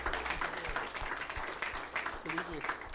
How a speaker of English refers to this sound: Thank you, team. Everybody, let's give the Lord a great applause. Amen. Amen.